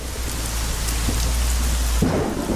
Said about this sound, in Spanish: Los relámpagos iluminan un pueblo construido sobre una loma. El coche de Alberto circula bajo el aguacero